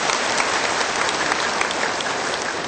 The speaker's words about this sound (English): Please give him a very warm round of applause as he comes up to the podium.